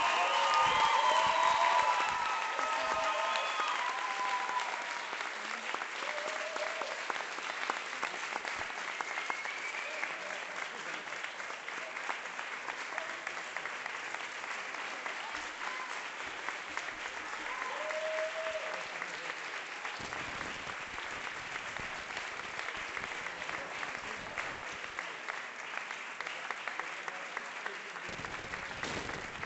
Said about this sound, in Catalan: Un fort aplaudiment per ella.